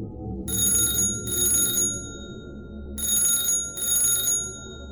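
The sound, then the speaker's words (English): A telephone rings again just after being hung up, in two double bursts, each a pair of bright, shrill electric-bell trills separated by a pause, over a steady low background hum. No one speaks. “And right after you've hung up the phone, it rings again.”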